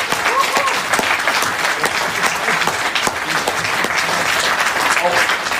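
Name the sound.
audience applause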